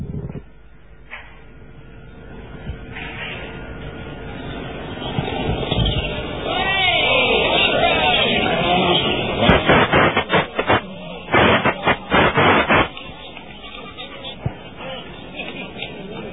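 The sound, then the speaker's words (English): Loud rally car engines roar past amid a murmuring outdoor crowd at the mine shaft jump in the forests of Canberra on a Saturday morning, swelling then fading, followed by bursts of choppy revving and crowd noise before settling back to a steady background hubbub. “You hear some very good response from the crowd as those cars going through.”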